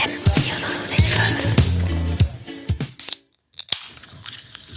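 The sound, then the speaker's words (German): A drink bottle is opened with a hiss, followed by a few seconds of fizzy, crackling rustle and sharp clicks, a brief pause, then a couple more clicks. No one speaks. “Ich muss sagen, dieses Geräusch, das macht immer so richtig Lust aufs Getränk.”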